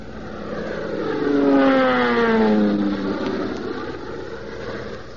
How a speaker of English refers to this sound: Tailspin Tommy and Skeeter diving their crippled plane down through the billowing smoke